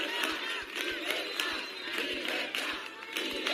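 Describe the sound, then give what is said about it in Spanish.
A dense crowd of protesters in Rivas whistles and shouts continuously at Madrid regional president Ayuso, demanding public healthcare, a loud, unbroken wall of jeering, with dull low thuds beating out a steady rhythm underneath. “donde la presidenta ha recorrido comercios, ha conversado con vecinos, pero también la esperaba otro grupo que la ha silbado y la ha reclamado, por ejemplo, por la sanidad pública.”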